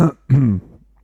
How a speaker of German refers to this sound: Oh, Entschuldigung, ich mute mich mal kurz zum Räuspern.